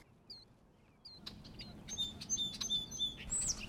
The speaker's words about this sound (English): That was a song sparrow. It's right up there on that willow. One of our most complex singers.